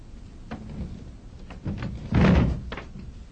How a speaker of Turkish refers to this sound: Kapıyı kapatın.